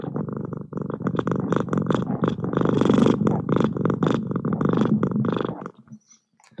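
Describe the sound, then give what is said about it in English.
A cat sitting on a person's lap purrs steadily and loudly, a continuous rumbling drone with a pulsing rhythm lasting several seconds before fading out near the end. “my cat, Mrs. Fluffbottoms, is sitting on my lap right now, purring up a storm”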